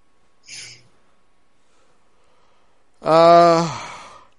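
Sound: yawning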